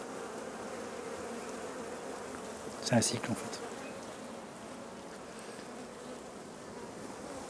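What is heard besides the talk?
honeybees buzzing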